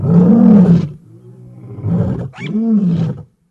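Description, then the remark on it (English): A lion roars loudly in two deep, rumbling bursts separated by a low, growling breath, with no talking. “For a few pennies, you can buy enough poison in any little rural store in Kenya to wipe out an entire pride of lions or group of hyenas.”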